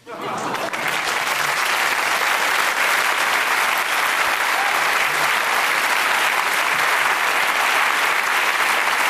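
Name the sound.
studio audience applause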